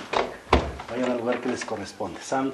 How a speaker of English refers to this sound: As he opens the doors of different rooms and closet spaces to let the smoke seep through, he calls on the spirits to leave and move on to the next plane of existence.